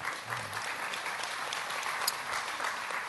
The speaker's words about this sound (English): I would call that a smattering of applause, actually. It's not a wholehearted commitment. That's called forced applause. Started by the lady in pink in the front row.